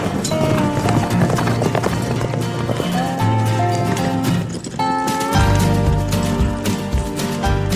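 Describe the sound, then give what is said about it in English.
Horse hooves clip-clop at a steady pace across an arena at a roping event as the rider is about to rope, the beats mixed under a loud, continuous tonal backdrop like music playing throughout. “Oh, there goes Evan.”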